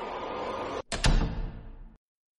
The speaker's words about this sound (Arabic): غادر إيغور الغرفة الأولى ومشى في الرواق بضع خطوات، ثم فتح باب الغرفة الرابعة.